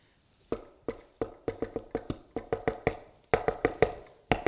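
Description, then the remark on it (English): A quick run of sharp hand taps patters out a galloping rhythm imitating the hoofbeats of the Egyptian army coming at the Red Sea, loud percussive hits in uneven clusters, with no voices. “What's the noise? It's the hoofbeats.”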